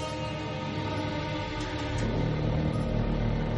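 Tibetan radong long trumpets, 4.5 metres long, played by Buddhist monks in a ritual at Samye Monastery in Tibet, sound a deep, buzzing, sustained drone, rich in low rumbling overtones, that swells louder about halfway through and holds steady to the end with no voices.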